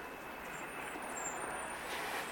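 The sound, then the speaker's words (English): A bus's air brakes let out a steady, sustained hiss for a couple of seconds, broad and fairly loud against a background of road noise, with no one talking. “Air brakes.”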